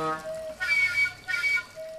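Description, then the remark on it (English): A water tower sounding like a musical instrument: a steady, resonant metallic hum broken by two rushing, breathy swells with thin whistling overtones, each about half a second long, then the hum returns. “All these structures are also musical instruments, or at least they all make noise, like these sounds coming from that water tower.”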